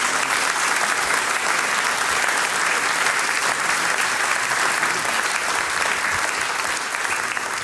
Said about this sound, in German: Großer Applaus, meine Damen und Herren.